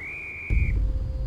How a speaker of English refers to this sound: Just then, Julian heard a whistle.